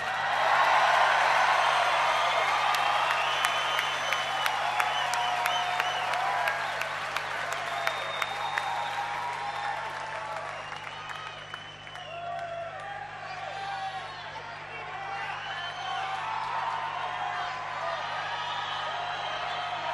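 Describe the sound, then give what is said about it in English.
A crowd claps and cheers steadily for about twenty seconds, applauding a performer on stage for quitting smoking; a dense wash of hand claps with scattered whoops and shouts, loudest at the start and easing slightly midway before swelling again. “You know what really deserves applause?”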